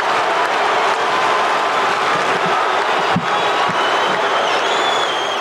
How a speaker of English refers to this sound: But there's still 7 seconds. And the Lakers have no timeouts left. But listen to this crowd on Cooper's heroics.